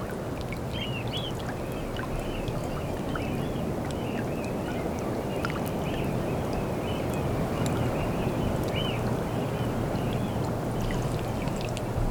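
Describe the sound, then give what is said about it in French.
Gentle water lapping steadily with a constant breeze rushing underneath at Mont Saint-Michel, France, with mist on the horizon; a continuous outdoor wash of sound with faint, high chirps scattered in the background and no voices. “Ce léger clapotis et cette brise incessante.”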